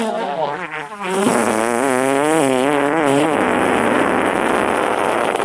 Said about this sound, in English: Oh, for heaven's sake, hurry up and die. I can't be expected to do a moving eulogy while you just lie there farting out your last.